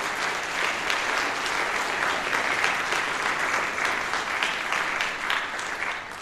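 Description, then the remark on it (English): Sustained audience applause for a brass ensemble fills the space, a dense, steady wash of many hands clapping at a fairly even loudness throughout, with no voices standing out above it. “So give them another round of applause.”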